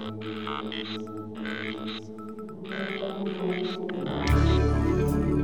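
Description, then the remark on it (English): Whale song: long, resonant moaning tones with rich layered overtones, steady and fairly loud, swelling near the end into a louder, rushing wash of sound. No one speaks. “Whales, now is this sperm or blue tip?”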